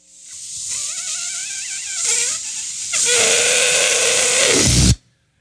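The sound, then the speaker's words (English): Air rushes out of a balloon in a loud, steady hiss laced with a wavering, squealing whine that shifts in pitch, grows harsher partway through, then cuts off abruptly after about five seconds. “It's a balloon being deflated, but apparently that sounded a little too much like a different kind of wind, which I was kind of sad about.”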